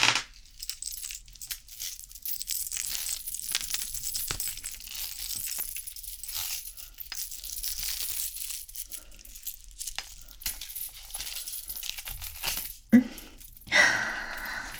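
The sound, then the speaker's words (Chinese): A metal chain, put on as an ornament, clinks and rattles with many small irregular jingles over about fifteen seconds and a sharper clatter near the end. No one speaks. “放心，这条链子不是用来折磨你的，这是我的小狗该有的装饰品。”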